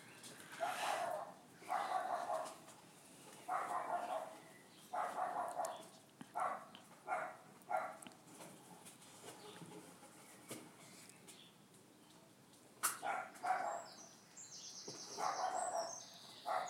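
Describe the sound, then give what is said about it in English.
A Cavalier King Charles Spaniel named Max, with half an ear, barks repeatedly in uneven bursts, some single yaps and some quick pairs, with faint bird chirps in the background. “He's a Cavalier King Charles Spaniel with half an ear because he got half caught in a paper shredder.”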